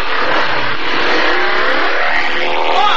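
A motorcycle engine revs loudly and steadily, a dense buzzing roar whose pitch climbs in a rising sweep toward the end, with no voices.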